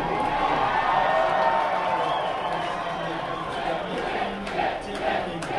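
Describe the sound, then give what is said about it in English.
A large crowd at an election night rally cheers and shouts continuously as Mitt Romney is up with almost 80% of the vote counted. A dense, steady roar of many voices fills the space, with scattered whoops rising above it. “And you can hear from that cheer that with almost 80% of the vote counted, Mitt Romney is up.”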